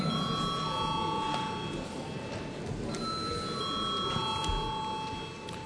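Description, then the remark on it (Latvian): A steady electric bell rings continuously in a parliament chamber before a vote, a sustained bright tone held through the whole stretch over a low murmur of room noise. “Paldies, lūdzu zvanu.”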